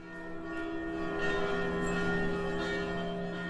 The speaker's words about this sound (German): Eine Glocke ruft die BesucherInnen in die historische Haupthalle des Hamburger Bahnhofs.